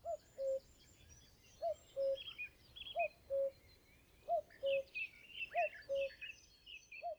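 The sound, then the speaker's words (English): A cuckoo repeats its falling two-note call about five times at a steady pace, clear, while other small birds chirp and twitter more faintly in the background. “The townsfolk loved to hear the bird's two-tone tune as the herald of spring and warmer weather to come.”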